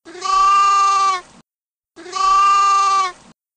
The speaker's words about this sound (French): Le mouton, effrayé, se mit à bêler de toutes ses forces.